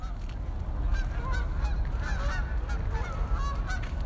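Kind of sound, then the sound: bird, birds calling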